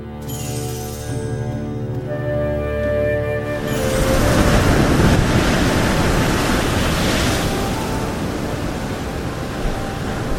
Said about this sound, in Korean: 아, 파도가 집채처럼 높아지는군요.